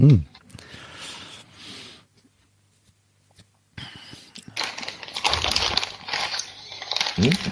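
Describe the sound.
Paper crackling and rustling in two stretches, with a short quiet gap between them, the crinkling growing louder and denser in the second half. A brief voice sound at the start and end.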